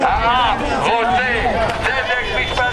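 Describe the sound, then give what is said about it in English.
A large, rowdy crowd of Benjamin Netanyahu supporters outside Jerusalem's district court shouts and chants "He's the King of Israel and the people are sovereign," many voices overlapping in a loud, continuous roar with raised, rising and falling tones throughout. “A large and rowdy crowd put social distancing aside to show their support for Benjamin Netanyahu outside Jerusalem's district court.”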